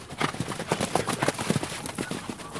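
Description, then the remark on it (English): Rapid, rhythmic hoofbeats of horses guided at a gallop around a dirt track at the Inanda Club, a dense flurry of thuds, moderately loud, with no voices over them. “guides horses on a gallop around a dirt track.”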